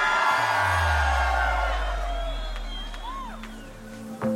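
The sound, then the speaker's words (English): A large festival crowd at Tomorrowland screams and cheers loudly for unreleased music over a heavy low bass rumble. Scattered whoops rise and fall throughout before the noise gradually fades slightly toward the end. “Come on, guys, if you're ready for some unreleased music, let me hear you scream!”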